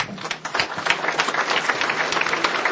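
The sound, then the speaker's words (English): A crowd applauds steadily at a lunch session, thanking the commitment makers, many hands clapping at once in a dense, continuous patter that stays fairly loud throughout, with no talking over it. “And a big round of applause for our commitment makers here.”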